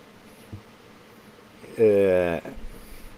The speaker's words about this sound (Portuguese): Opa, peraí, tem uma tremenda vespa aqui em cima. Joguei ela para lá. Picar de vespa é uma coisa horrível.